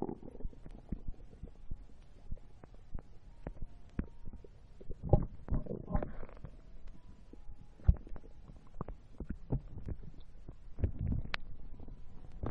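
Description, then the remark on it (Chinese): A woman's stomach growling: low gurgling rumbles and bubbly squelches rising and fading over a quiet background, with occasional soft clicks and a few louder gurgles. No one speaks. “姐姐肚子在咕咕咕的叫呢，心里不好意思吗？”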